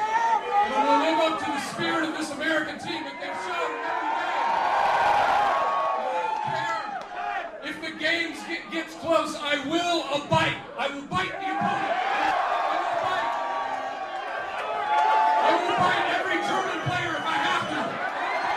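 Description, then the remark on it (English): A large, noisy crowd at a soccer rally in Recife roars and cheers continuously for the whole stretch, with comedian Will Ferrell talking loudly over the din and occasional sharp smacks or claps punching through. “I don't know if he can make that out in front of all the cheering, but Will Ferrell will bite.”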